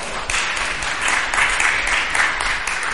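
round of applause

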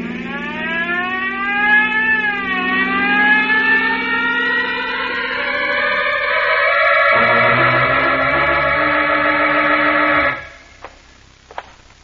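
police car siren wailing

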